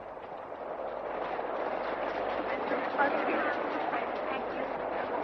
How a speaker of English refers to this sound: Just listen to that rain. That ought to fill the well.